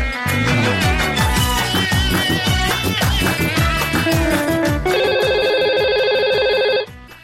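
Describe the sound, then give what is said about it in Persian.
A phone ringtone for the first incoming call plays loudly on its own: a busy, melodic electronic tune with rapid notes for about five seconds, then a sustained bright buzzing ring tone before it cuts off. “به تلفن داریم.”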